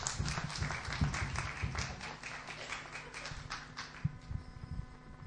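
A small crowd claps together in a room, a steady patter of many hands that thins out after a few seconds, leaving scattered claps over a faint sustained tone.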